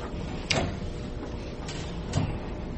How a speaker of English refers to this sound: Yes, please shut that door and that'll help. Thank you much.